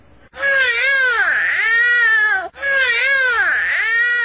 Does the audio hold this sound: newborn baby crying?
yes